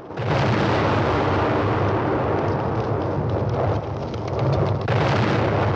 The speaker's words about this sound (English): Explosions erupt around him as he tries to catch up with his crew. One causes him to fall off his horse and he tumbles down a slope.